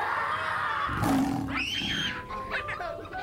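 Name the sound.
lion roaring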